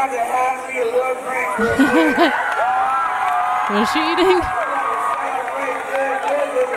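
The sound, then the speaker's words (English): A loud, dense crowd roar with scattered shouts and cheers, heard from a video being played, fills the background throughout, while a person speaks briefly over the din. “I don't know, the crowd's too loud.”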